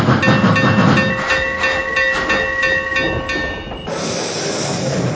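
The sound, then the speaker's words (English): A steam train, special train number 155 from Cheyenne, pulls into Green River station on track number one, its chugging and rail clatter layered with sustained whistle-like tones, then the brakes release a loud, steady hiss of steam. “Not arriving from Cheyenne on track number one. Special train number 155.”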